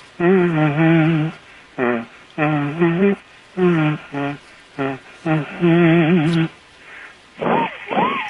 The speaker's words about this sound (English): That's a kazoo. Mm-hmm. I'm assuming a professional model kazoo. Yeah, a little whistle thing. Yeah, yeah. And now here's the wedding march here. The wedding march. All right. Not familiar with that. That's a great kazoo.